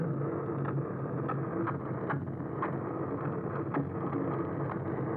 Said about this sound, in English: So like boats, which is actually the most pervasive sound in the ocean.